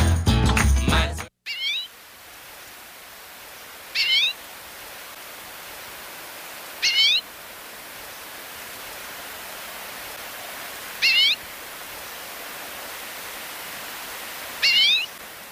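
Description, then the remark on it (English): A common redpoll, a migratory winter bird, calls in five short, bright chirping bursts spaced a few seconds apart over a soft background hiss, after a brief loud burst of other sound at the very start. “It's a common redpoll, migratory winter bird.”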